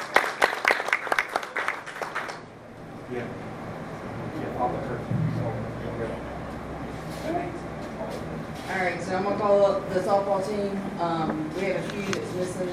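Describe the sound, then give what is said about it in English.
A crowd bursts into loud, dense applause for a couple of seconds for a coach called up for a picture, then the clapping cuts off and murmuring voices and a steady low hum carry on. “Let's give her a round of applause, please.”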